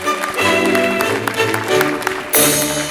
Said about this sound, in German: Ah, das ist schön. Das ist eine Freude, wenn man mit einem Applaus begrüßt wird bei der Arbeit. In einem so einen schönen lauen Gärtchen am Sommerabend.